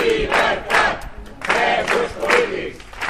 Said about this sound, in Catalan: Els investigats han rebut el suport d'una cinquantena de persones que s'han concentrat davant de l'Audiència Provincial de Tarragona.